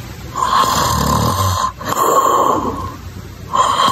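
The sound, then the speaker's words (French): A man snores loudly in his sleep, recorded by his partner several months earlier, with three long rasping breaths in a steady rhythm and no one talking. “Moi, je me suis fait enregistrer en train de ronfler il y a plusieurs mois.”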